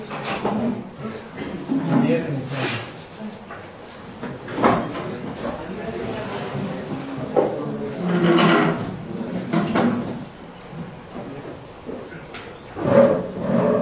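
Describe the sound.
Chairs scrape and clunk across a hard floor in several separate bursts as they are shifted into place, with muffled voices murmuring in the room between the noises.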